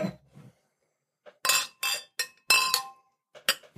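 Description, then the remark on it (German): Several glasses clink together in a toast, a quick series of bright, ringing chinks, with faint murmuring voices briefly at the start. “Prost. Let's go.”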